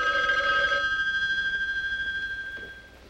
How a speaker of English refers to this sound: The phone rings, waking her up.